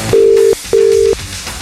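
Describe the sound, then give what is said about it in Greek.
Two long, steady ringback tones from a phone line ring out loud and clear, separated by a short pause, with no one answering and no voices present. “δυστυχώς η Γεωργία δεν το σηκώνει.”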